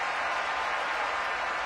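A crowd cheers in a dense, steady roar of many voices blended together, holding an even loudness throughout the short stretch with no single voice standing out, a Wisconsin crowd cheering on Bucky Badger.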